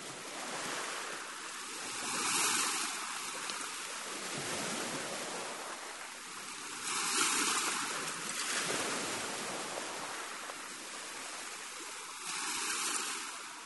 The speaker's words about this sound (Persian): این آوای دریاست